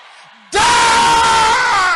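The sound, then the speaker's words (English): A large audience erupts into loud, sustained shouting together, a dense wall of voices calling out a prayer in unison after a brief quieter moment. “Can I hear you shouting it louder?”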